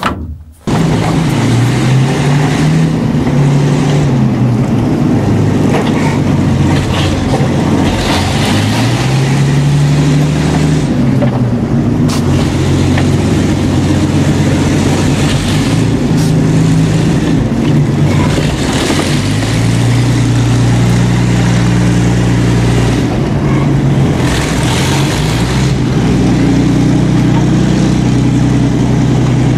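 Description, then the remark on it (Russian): A heavy armored vehicle's engine runs loudly and steadily throughout, its deep drone rising and falling in pitch as it revs, slows and brakes hard, with clanking mechanical noise over the top. “И помогает мне дожать тормоз для того, чтобы быстро-быстро затормозить машину.”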